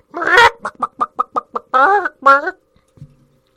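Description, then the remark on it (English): Loud chicken clucking: an opening squawk, a quick run of about six short, evenly spaced clucks, then two longer drawn-out squawks before it falls quiet. “I think you're a chicken. I don't think this is an eagle.”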